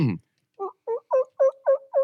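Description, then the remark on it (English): A person imitates a turkey call with six quick, evenly spaced gobble-like bursts, growing slightly louder, after a brief low vocal sound at the start. “Yep, that's a turkey.”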